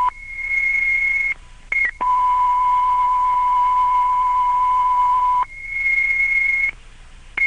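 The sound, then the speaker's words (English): Steady electronic radio alert tones, sent to advise all units operating at the World Trade Center scene to switch to the Manhattan South frequency: a high pitched tone, a brief repeat, then a long lower hum held for several seconds, then the high tone again, loud and unbroken, with no voices. “8084 requesting that a transmission be made with tones advising all resources operating at this scene to switch to the Manhattan South frequency.”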